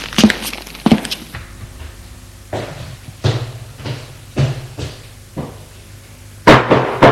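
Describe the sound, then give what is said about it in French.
Several solid knocks by a concierge on a large wooden door to a superior's office, spaced out unevenly over a few seconds, fairly loud with no voices around them. “Le concierge a frappé à la porte.”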